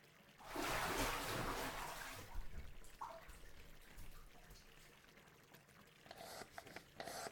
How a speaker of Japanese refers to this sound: こうやって手にいっぱい泡出してお湯を混ぜて泡を育てて。